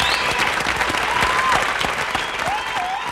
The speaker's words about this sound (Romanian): Aplauze, vă rog! Mulțumesc, mulțumesc, mulțumesc!